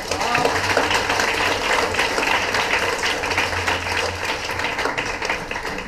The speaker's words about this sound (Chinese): 其实我还没讲完，但是你们鼓掌我都不好意思再讲了。